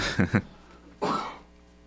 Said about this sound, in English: Sorry, I almost had a cough there, too.